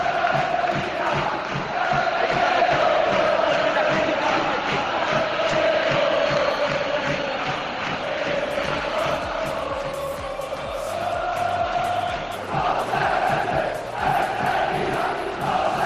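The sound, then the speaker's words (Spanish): A large stadium crowd at the Europa League match between Sevilla and Krasnodar chants in unison against the sale of Sevilla and against Pepe Castro at half-time, a loud, continuous roar of rhythmic shouting with the repeated cadence of a protest chant rising and falling throughout. “Había un partido definitivo y es el que está enfrentando al Sevilla contra el Krasnodar, un partido marcado por la venta del Sevilla y los gritos, ojo, a Pepe Castro en el descanso.”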